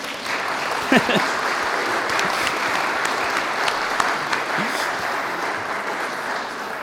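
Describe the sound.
An audience claps steadily for about seven seconds, a dense, even wash of many hands at a fairly loud level, with a few faint voices calling out briefly underneath.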